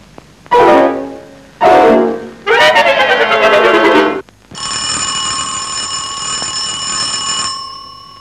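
An electric bell, rung by a finger pressed on its button, rings sharply in three loud bursts, two short and a longer rattling one, then gives way to a steady, shrill buzzing tone that holds for about three seconds. No voices.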